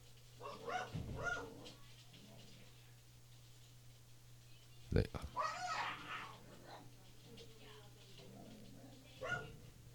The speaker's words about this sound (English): Oh, our dogs go nuts when I'm listening. Our dogs go fucking crazy when people come to the gate. They got some serious issues